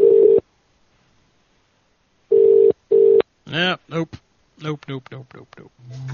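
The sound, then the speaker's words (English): A telephone ringing tone on a call sounds as short, steady electronic bursts, a single ring followed by a quick double ring, before a voice starts talking. “It's a lot of ringing, man.”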